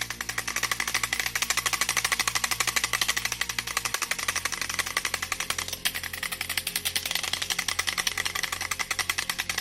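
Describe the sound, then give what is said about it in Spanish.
A matraca, a wooden ratchet, clacks in a rapid, unbroken rattle, loud, its dense stream of dry knocks continuing steadily with no voices; it is used to call brotherhood members to religious services during Holy Week, on Maundy Thursday night, Good Friday and Holy Saturday. “hierro que hace un sonido peculiar y se usa para llamar a los cofrades a las distintos servicios religiosos que hay durante el Jueves Santo por la noche, el Viernes Santo todo el día y el Sábado Santo de Resurrección.”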